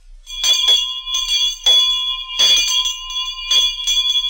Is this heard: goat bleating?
no